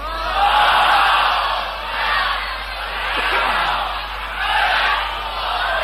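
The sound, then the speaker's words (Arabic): A huge crowd filling a Husseiniya and the wide street in Isfahan shouts together in loud, swelling waves, the roar rising and falling several times with no individual voice standing out. “ما شاء الله ما شاء الجمهور الغفير هذا ما شاء الله الى اخر الحسينيه وبالشارع عريض اصفهان”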